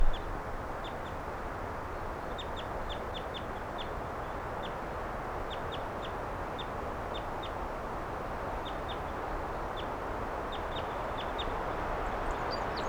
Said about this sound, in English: Wild bird.